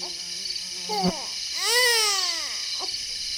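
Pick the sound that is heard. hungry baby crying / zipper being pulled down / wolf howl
hungry baby crying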